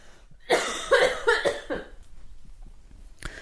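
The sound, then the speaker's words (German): A burst of loud coughing: three or four harsh coughs in quick succession, followed by quieter breathy rasps and a short exhale at the end. “Ich muss ganz kurz ganz laut husten, warte.”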